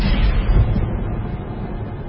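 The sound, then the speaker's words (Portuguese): A metal calf idol is thrown into a fire: a burst of roaring flame flares up, then settles into a steady, low, rumbling fire that carries on loudly without pause, with no voices present. “Aí, peguei o bezerro de metal, aquele objeto nojento que vocês tinham feito, e o joguei no fogo.”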